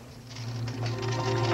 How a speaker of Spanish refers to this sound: Llega al dormitorio y corre una cortina.